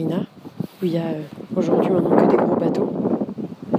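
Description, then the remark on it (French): A man speaks outdoors beside an empty harbour near a marina while wind buffets the microphone, starting lightly and then swelling into a loud, continuous rumbling roar that partly masks his voice for the second half. “Pardon pour le vent.”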